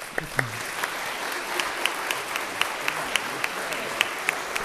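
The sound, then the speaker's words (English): An audience applauds steadily after a prayer of blessing for several men, a dense wash of many hands clapping with sharper individual claps popping out, at moderate volume. “We can clap.”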